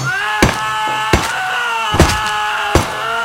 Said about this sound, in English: Doyle glances up at Latos, who grins, picks up the mallet, and grabs Miles' hand, lays it on the desk, and smashes it repeatedly with the mallet.